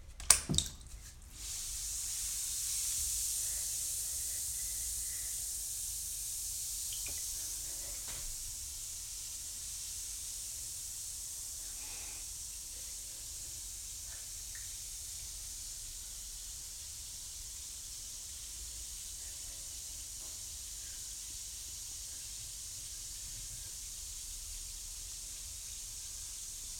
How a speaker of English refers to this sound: Wow, this thing's fizzing. How cool is it?